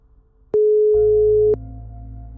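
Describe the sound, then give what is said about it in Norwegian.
A telephone ringback tone on an outgoing call placed by two journalists to an unknown phone number: one steady, loud, pitched tone lasting about a second, starting and ending with a click, then a low line hum that keeps going. “Han aner ikke hvilket nummer det er, så kanskje vi bare rett og slett skal ringe?”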